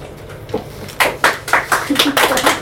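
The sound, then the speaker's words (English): An audience breaks into applause after a quiet opening second, a steady patter of many hands clapping at a moderate volume with no one speaking over it. “Thank you for clapping.”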